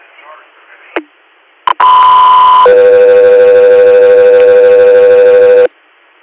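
Radio dispatch alert tones for unit Scott 3: after a brief squelch click of radio static, two sustained electronic tones play in sequence, a shorter higher pitch followed by a long steady lower one, loud and continuous.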